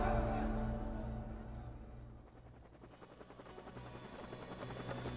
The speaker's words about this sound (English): The chopper ride from Syria to the Iraqi Al-Harir airbase